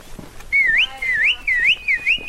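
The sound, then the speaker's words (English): A three-man team of trained baboon wranglers whistles in a series of bright, rising and falling tones, four or five whistled phrases in quick succession, fairly loud, with no talking, to drive a baboon troop out of a village into a grove of pine trees. “By clapping, shouting, and whistling, this three-man team begins to nudge the troop out of the village and into a grove of pine trees.”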